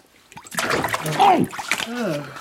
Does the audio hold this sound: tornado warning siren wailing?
no